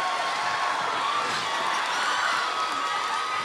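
A burst of applause and cheering from a group for a newly engaged fiancée, steady dense clapping with excited whoops and shouts layered over it, fairly loud throughout.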